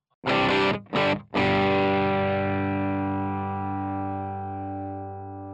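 A heavily effected, distorted guitar chord from a song being mixed with reverb in a studio cuts in and out twice in quick succession, then rings out loud and sustained, slowly fading with a reverberant tail, with no talking.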